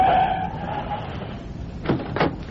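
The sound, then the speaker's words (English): A taxi brakes to a halt in The Green Hornet: a brief high squeal over low engine rumble fades out, followed by two short, sharp clunks like a door working. “Okay, cabbie, hit those brakes.”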